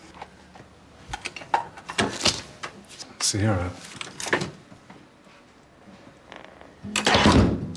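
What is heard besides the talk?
door closing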